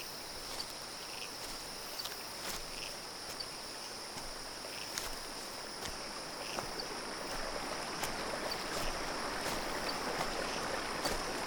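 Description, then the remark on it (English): A steady, even rush of a river flowing through a forest fills the scene. High, continuous insect chirring sits above it, with no voices. “Follow the sound of the river.”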